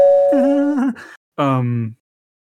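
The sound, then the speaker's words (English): A voice imitates a doorbell chime with two sung notes, a higher one followed by a lower, falling one, fairly loud, with a short pause between them. “I'm ringing your doorbell.”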